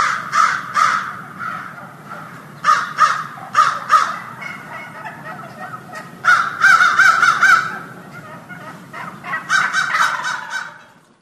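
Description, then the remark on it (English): Wild turkeys gobble in loud, rapid, warbling bursts, several calls overlapping and repeating in clusters, with a steady low rumble underneath and no talking. “Oh, you just got to love the sound of those turkeys talking.”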